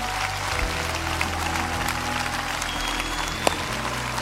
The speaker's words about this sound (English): Come on, Lakewood, let's give them a hand as they stand all over the building.